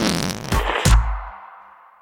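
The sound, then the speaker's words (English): A loud, buzzy whoopee cushion fart rasps out, with two deeper blurts mid-way before the air sputters and fades into a trailing hiss. No one speaks. “If everyone knows the whoopee cushion, why does no one get credit for it?”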